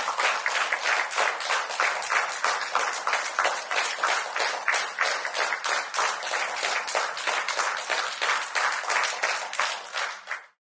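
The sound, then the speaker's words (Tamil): Sustained group applause from many people clapping steadily for about ten seconds, dense and even in loudness, with no voices above it, before it stops abruptly. Union Cabinet ministers stand and applaud Prime Minister Narendra Modi at the start of a cabinet meeting in New Delhi. “இன்று புதுதில்லியில் அமைச்சரவை கூட்டம் தொடங்கியதும் பிரதமர் திரு நரேந்திர மோடிக்கு அமைச்சர்கள் அனைவரும் எழுந்து நின்று கரகோஷம் எழுப்பி வாழ்த்துக்களை தெரிவித்தனர்.”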